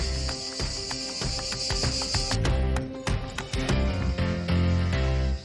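A steady, high-pitched buzzing of cicadas in Tuscany, Italy, drones for the first couple of seconds and then cuts off, partly masked by louder clattering and low rumbling sounds.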